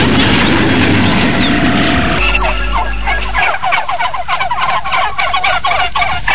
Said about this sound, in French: Bonjour les dindons. Ça va les dindons?